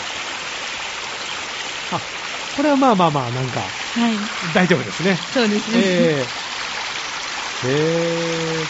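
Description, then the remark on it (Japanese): Kamuiwakka Falls, a hot-spring waterfall feeding a strongly acidic stream, rushes with a steady, full, hissing roar from start to finish while people talk briefly over it, their voices sitting on top of the constant flowing water. “じゃあこちらも実は音を取ってきてくれたと、 はい、 カムイワッカの滝の音をですねお聞きいただきたいと思います。”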